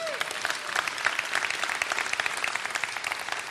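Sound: audience applause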